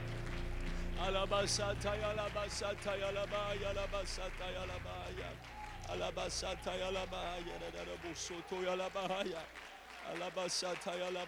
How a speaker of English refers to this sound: Can you clap your hands as a sign of expectancy for what God's about to do in this house?